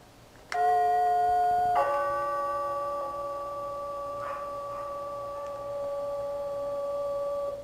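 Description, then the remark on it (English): A loud doorbell at a house's front door sounds a single two-note ding-dong: a bright first tone, then a lower second tone that rings on and fades slowly for several seconds, with no talking. “And I'm going to ring the doorbell.”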